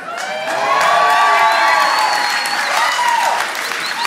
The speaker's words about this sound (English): In front of the world with nothing but joy and people cheering her on, right?